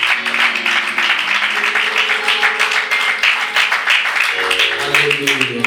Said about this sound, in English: Let's put our hands together to appreciate our choir. You will agree with me that they did better than last week. If you are clapping for the Lord, you can do better.